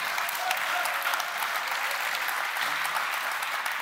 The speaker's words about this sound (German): Viel Applaus am völlig falschen Ort.